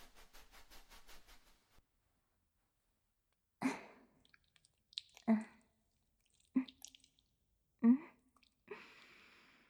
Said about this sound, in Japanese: 石鹸、しっかりと泡立てて。